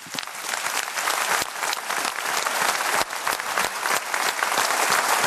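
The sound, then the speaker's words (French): Steady, sustained applause from a sizable audience in Montluçon for Marc-Antoine Lebray, dense overlapping claps at a loud, even level throughout, with no speech on top. “Ah non, on repart pas tout de suite parce qu'on se plaît beaucoup à Montluçon et on applaudit Marc-Antoine Lebray.”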